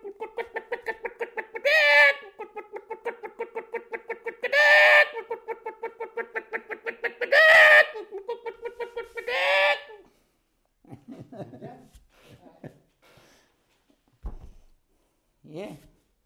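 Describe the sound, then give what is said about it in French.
A person imitates a hen with rapid, rhythmic clucking, broken by four louder squawking bursts, followed by a few short fragments of voice after the imitation stops. “il y en a des jeunes qui savent imiter les oiseaux. Il y en a un qui passe à la télé, mais plusieurs Et fois la par poule”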